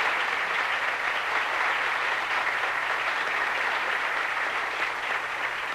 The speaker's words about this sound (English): I did want to come back, not only thank you, but also thank Antonio Morelli and the wonderful gentleman and the lady of his orchestra for the way they played our music. Can we have a nice big round of applause for them?